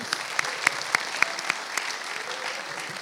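An audience applauds with steady, overlapping clapping, a few sharper claps standing out near the start before the sound settles into an even patter.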